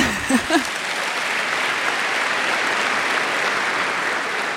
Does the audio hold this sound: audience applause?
yes